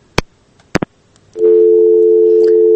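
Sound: telephone busy tone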